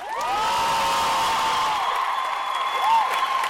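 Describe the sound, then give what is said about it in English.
A crowd of fans in Boston cheers and applauds loudly and steadily for author Lena Dunham at a book tour event, with whoops and shrill whistles rising above a dense wash of clapping that holds throughout. “We left Lena Dunham to the wild applause of fans as the conversation and the book tour got started.”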